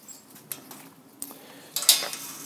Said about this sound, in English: Just closing up the rear gate.